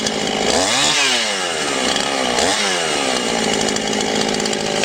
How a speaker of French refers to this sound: Alors on prend sa tronçonneuse, par une belle après-midi de préférence, ça fait une balade, et on va couper son petit arbre.